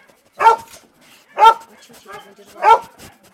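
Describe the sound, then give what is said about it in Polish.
A two-year-old young dog lets out three sharp, fairly loud barks about a second apart, with faint whimpering sounds in the quieter gaps between them. “To jest młody pies dwuletni.”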